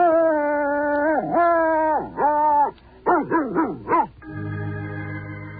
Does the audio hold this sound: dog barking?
yes